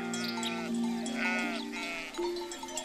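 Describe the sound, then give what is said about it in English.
Local sheep in Champagne, France, bleating, a sustained, wavering bleat running for a few seconds with another voice overlapping near the end, fairly loud and with no talking. “This is a reference to Pouliot, an old regional French word for wild thyme, which grows in abundance in this area of Champagne, to the delight of the local sheep.”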